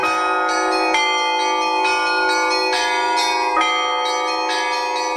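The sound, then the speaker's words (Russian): Church bells peal in quick, overlapping strikes, their bright ringing tones sustaining and layering into a continuous loud chime with no voices present. “Программа о колоколах, звонарях и не только.”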